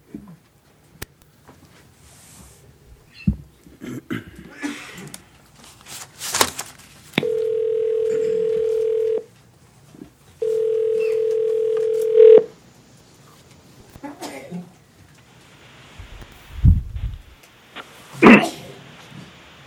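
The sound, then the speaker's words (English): A telephone call being placed over a speakerphone in a Public Service Commission hearing room to a witness testifying by phone: two long, steady, loud tones a second or so apart, like a line ringing, surrounded by scattered clicks, taps and handling noise, with no talking. “he's the second one who will be testifying by phone.”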